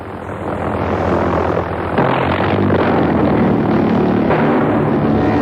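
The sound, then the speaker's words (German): A loud, continuous rasping engine drone from the pulsejet of a German V1 flying bomb in flight during World War II, a rough buzzing roar sustained throughout with a slight surge partway, heard alone with no voices. “Die V1 klingt wie ein schlecht eingestelltes Motorrad.”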